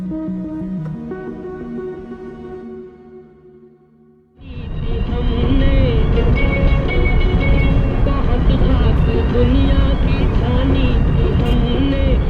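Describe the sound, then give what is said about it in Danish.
A short melodic passage fades away, then the loud, steady rumble and road roar of a civilian car driving out along a country road in Afghanistan toward Panjshir takes over, continuous to the end. “Vi har fået vristet os fri af byens tætte trafik og stryger nu ud af landevejen mod det savnomspundne Panjshir, hvor det sejlivede tadjikiske bjergfolk bor.”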